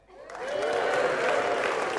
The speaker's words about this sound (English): Okay, now, folks, listen. I want us to give a big cheer for people that went off things for Lent and went the whole way.